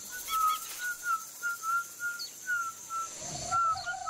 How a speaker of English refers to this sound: Whistling, yes. The Pinaha whistle, for example, they communicate just fine whistling.